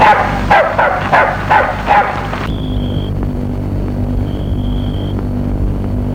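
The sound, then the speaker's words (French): A dog barks from a distance, about five sharp barks in a quick, steady series, then falls silent, leaving a low rumbling background with a faint, thin high-pitched tone. “L'on entend au loin un chien qui aboie.”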